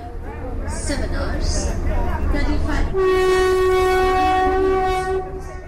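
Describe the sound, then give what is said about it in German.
Busy ambience at New Delhi railway station, India, with a low rumble and indistinct voices, then a long, loud train horn blares steadily for about two and a half seconds before fading. “aus dem Bahnhof Neu-Delhi.”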